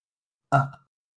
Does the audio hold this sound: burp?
yes